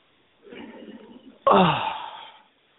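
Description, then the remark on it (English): A deep, airy inhale lasting about a second, followed by a sudden, louder exhale with a voiced, groaning edge that fades out. It is heavy, with no talking. “But what I need you to do right now, if you don't do nothing but take 5 seconds just to close your eyes, and I need you to exhale and inhale. And it's okay if your breathing sounds heavy.”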